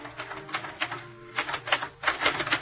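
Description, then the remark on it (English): Rapid clacking of a portable typewriter on a desk in a living room, typed by someone wearing gloves, keys striking in quick irregular bursts with brief pauses, moderately loud with no voices. “At 9:15, I was sitting in front of the portable typewriter on the desk in her living room. I left my gloves on while I typed.”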